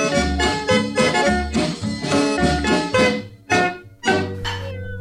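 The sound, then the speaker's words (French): A bouncy song with bass and chords plays, then cuts off and closes on a single bright, drawn-out cat meow. “Et ça finit par un miaou.”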